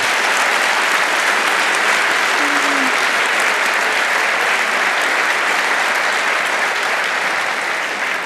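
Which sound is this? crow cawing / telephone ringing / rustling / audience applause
audience applause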